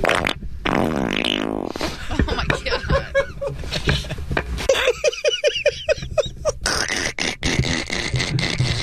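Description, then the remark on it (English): A loud, sputtering fart rings out, then the man who farted breaks into rhythmic, breathy laughter at it that continues in bursts until the end. “laughing at his own fart.”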